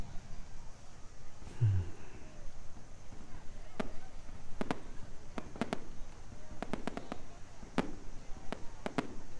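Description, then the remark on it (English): Fireworks pop and crackle in irregular clusters of sharp bangs over a low background rumble, with faint voices murmuring underneath. “I don't want to take you away from the fireworks.”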